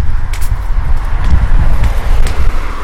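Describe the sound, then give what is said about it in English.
Strong wind roars across a street on a very windy day, a loud, steady low rumble that buffets in gusts, with a few faint scuffing steps or clicks breaking through. No one speaks. “Hopefully the wind does not make too much background noise, as it's very windy today.”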